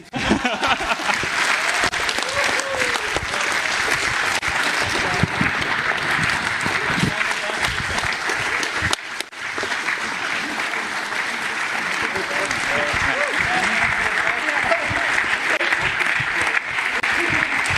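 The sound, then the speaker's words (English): A large conference audience applauds steadily, a dense wash of clapping that stays loud and unbroken for about eighteen seconds, with only a brief dip midway. “Need twice the amount of applause, and thank you very much,”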